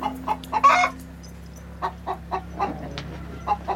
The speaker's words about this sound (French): Et tous ces poulets sont pour votre consommation familiale ou... Ça, c'est pour notre consommation, oui.